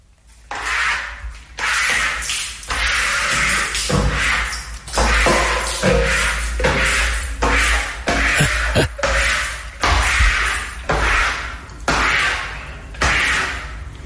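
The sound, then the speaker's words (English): A squeegee is pulled repeatedly across a wet shower wall to dry the shower, about ten swishing strokes in a steady rhythm, each ending with a soft squeak or thud. “Met de trekker maak ik de douche droog.”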